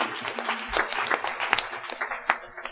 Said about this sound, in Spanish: Aplauso a nuestro Dios.